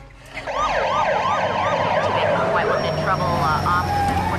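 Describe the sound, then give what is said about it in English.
Several police car sirens wail at once, their overlapping rising-and-falling tones loud over a low engine rumble, as a fleet of police cars pulls up on a driveway. “The killer rushes off as a fleet of police cars pull up on the drive.”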